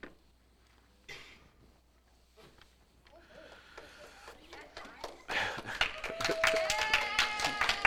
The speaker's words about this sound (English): You're not supposed to clap. Yeah, that's true. That's true.